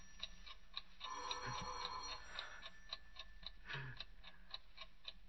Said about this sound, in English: Tick-tock. 7 minutes to 3. In 7 minutes, the alarm goes off. 7 minutes to 3, the alarm rings for me.